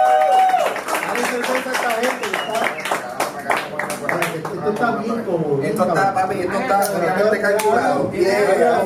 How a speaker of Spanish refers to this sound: ¡Oye, aplauso! ¡Aplauso! ¡Aplauso! ¡Aplauso! ¡Aplauso! ¡Aplauso!